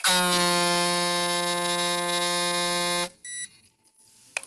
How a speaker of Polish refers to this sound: O. I się zablokowało. I się zablokowała i ja po prostu nacisnąłem ten włącznik maszynki, przytrzymałem go parę sekund do momentu, aż przestała nam pracować i ten dźwięk piszczący, taki sygnał, takiego bip było słychać.